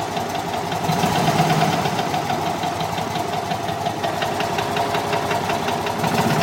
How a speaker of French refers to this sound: Le moteur d'une Fiat, c'est ce que vous nous aviez demandé. Oui, parce que ma première voiture à Paris, ça a été la Fiat, une petite Fiat 500.